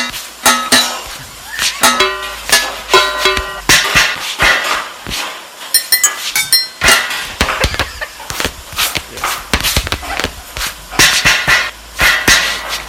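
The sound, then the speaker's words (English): Kitchen Foley effects with no music: a rapid, stomp-like run of loud clanks, taps and bangs, some with short ringing metallic tones, layered in a busy rhythmic clatter. “So what we're listening to right now is the song that's in the kitchen. Without the music.”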